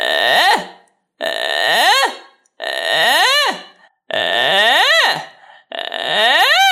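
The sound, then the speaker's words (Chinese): Five creaky vocal fry sweeps sung in a row as a singing exercise, each a rough, crackling glide that rises and then falls in pitch, about a second long, separated by brief pauses, fairly loud with no other talk. “请你用气泡音这样练。”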